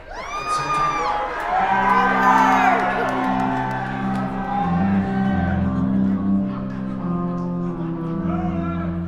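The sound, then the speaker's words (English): A large crowd of concert audience members yells and whoops together, shouting out a song request, with many overlapping voices at once before settling into a sustained, rowdy roar of cheering. “You can all say ….”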